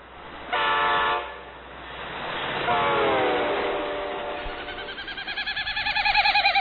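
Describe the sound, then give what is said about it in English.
A snipe's winnowing, made as its rapidly beating wings force air through its widespread, narrow, stiff outer tail feathers: hollow, tremulous whistling bursts that swell and fade, each with a Doppler effect, the last one breaking into a rapid throbbing pulse. Clear, with no voices. “His rapidly beating wings force air through his widespread outer tail feathers, which are narrow and stiff.”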